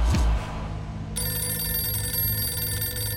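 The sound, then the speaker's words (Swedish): A low thump opens, then a telephone starts ringing about a second in, a steady, bright electronic ring that holds to the end without a break. Nobody speaks. “Vad som börjar med ett vanligt telefonsamtal ifrån en kund”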